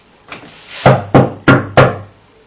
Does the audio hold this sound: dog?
no